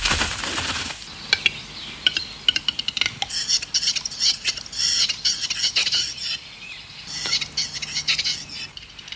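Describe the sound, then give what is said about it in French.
A western capercaillie, Europe's largest forest bird, giving its display call: a series of sharp, dry clicks and pops like a bottle being uncorked, quickening into a burst, with rustling, scraping sounds, in an open outdoor setting, no talking. “C'est typique de la parade de l'oiseau forêt. J'ai nommé le grand tétras, plus gros oiseau forestier en Europe.”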